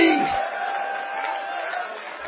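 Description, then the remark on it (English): A crowd shouts and cheers together in response to a call to shout "I want the glory back," a sustained, loud roar of many voices, steady for a couple of seconds without individual words standing out. “Somebody shout, I want the glory back.”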